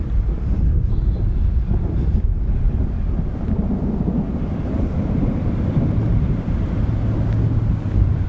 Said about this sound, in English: Oh, that thunder keeps just hitting a lot, though.